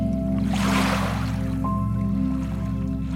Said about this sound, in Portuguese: E neste momento, uma onda aproxima-se lentamente. A água toca na areia